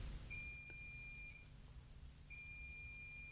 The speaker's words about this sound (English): And then the washing machine is beeping hysterically. And you have to get up and turn it off because otherwise it really annoys you. And now when I want you to beep to demonstrate, there you go.